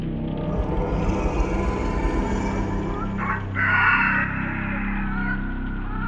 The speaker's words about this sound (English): This was a gentler, almost cooing call. It was like the harpy was trying to coax them out of hiding.